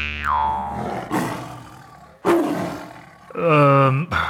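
tiger roaring

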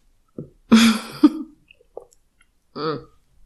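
throat clearing

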